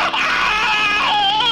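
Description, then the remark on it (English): A voice imitates being electrocuted with 50,000 volts, a loud, strained wail that wavers and trembles in pitch, held continuously for a second and a half with no other talk. “what does it sound like when you've got 50,000 volts running through you?”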